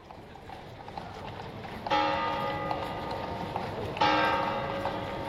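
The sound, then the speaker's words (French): Horses with carts clop beside a church while a bell rings out twice, each loud strike ringing on over the steady outdoor background. No one speaks. “7 à 8 messes le dimanche, foule en dehors de l'église, chevaux et carrioles attendent à côté.”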